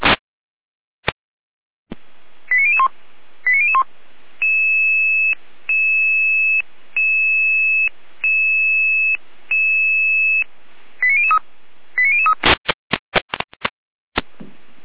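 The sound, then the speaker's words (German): Radio alerting tones from the Jena dispatch center (Leitstelle Jena) in Germany sounding an alarm: short rising chirps, then a steady series of high, even beeps in a regular on-off pattern, more chirps, and a burst of rapid clicks at the end. “Leitstelle Jena mit Alarmierung.”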